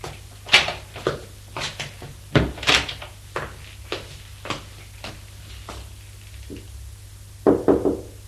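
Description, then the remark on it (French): A mother knocking on her son's bedroom door: a long series of sharp, hollow raps at an uneven pace, ending in a louder cluster of knocks, with no voices and a faint steady hum underneath. “Elle va frapper à la porte de la chambre de son fils.”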